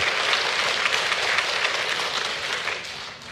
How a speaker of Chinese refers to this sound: 让我们为第17幸福小组一些鼓掌好不好，为上帝使用我们的弟兄姐妹。